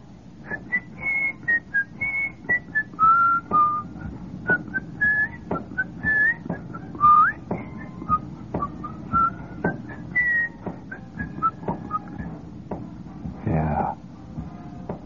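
A lively whistled tune carried by several people outdoors in hot sunlight, bright pitched notes rising and falling over steady background murmur and clatter, with a brief louder thump near the end.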